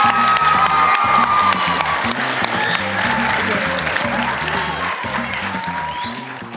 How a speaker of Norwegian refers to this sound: Gi henne en varm applaus.